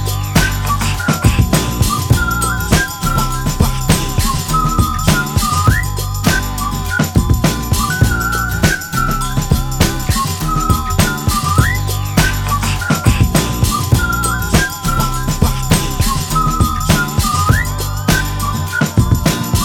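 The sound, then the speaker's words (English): A loud, bass-heavy rap track beat plays throughout while a shrill whistle melody repeats over it in short phrases, with quick upward slides at the end of each phrase. “If you rappers out of bounds, I'ma blow the whistle.”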